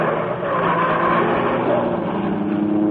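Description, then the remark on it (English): The Green Hornet's gleaming black car roars loud, a steady throaty rumble with a slight rising whine as it speeds off into the darkness, holding strong for the whole moment. “Then the section of wall closed automatically as the gleaming black beauty sped into the darkness.”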